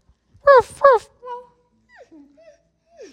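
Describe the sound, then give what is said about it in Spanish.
A small dog gives two quick, high-pitched yaps, followed by a few soft, whiny whimpers trailing off. “Aquí estamos también con el perrito tuyo, Río. Río, ¿cómo estás?”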